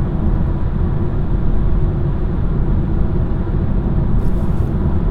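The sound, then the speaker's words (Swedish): Steady low-frequency rumble of a car interior while driving on the way from Vegavan, a continuous dense hum of engine and road noise with no voices, loud and unchanging throughout. “Jag satt där i bilen på väg från Vegavan, gjorde den här inspelningen för förra programmet av Radio Krishna.”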